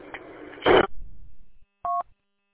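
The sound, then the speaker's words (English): A phone rings with a single short electronic two-tone chirp, brief and clear, following a burst of rough static-like noise. No one speaks. “Okay, all right, I got a phone call here I got to take, so catch you later.”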